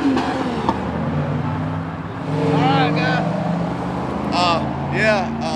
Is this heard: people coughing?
no